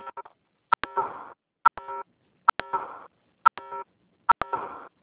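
phone keypad dialing tones

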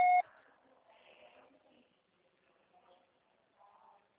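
voicemail beep tone

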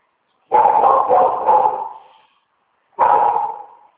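dog barking

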